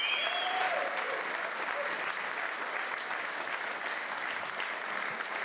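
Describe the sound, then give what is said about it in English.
An audience claps steadily for rugby players David Wallace and Conrad Smith, a dense, even wash of many hands that holds at a constant level throughout without pausing or building. “Would you please give a very big round of applause to David Wallace and Conrad Smith.”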